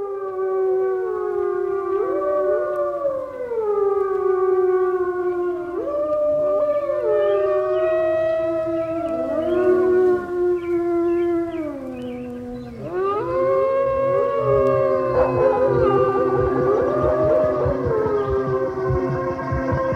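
A chorus of wolves howls together, long overlapping wavering tones rising and falling continuously, several voices layered, with no talking.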